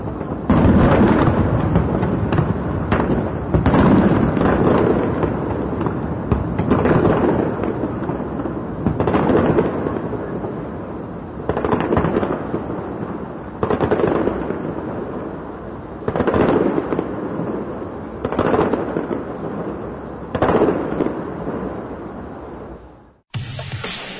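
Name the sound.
fireworks display bursting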